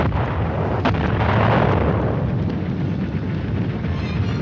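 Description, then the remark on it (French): Dense, rumbling blasts of artillery fire in the war in Korea roll together into a continuous loud roar, with a sharper crack near the start and booming low end throughout, no voices present. “Voici 3 ans, en effet, plus de 3 ans même, les premières explosions éclataient dans ce qui avait été le pays du matin calme.”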